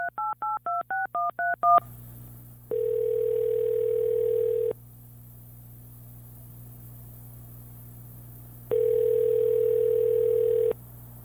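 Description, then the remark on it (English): A rapid string of about ten touch-tone dialing beeps, followed by two long, steady phone tones about two seconds each with a gap between, over a faint low hum; no one speaks. “This is my first time using the phone on the show.”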